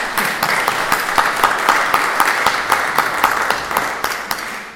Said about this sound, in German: Also Applaus für ihn.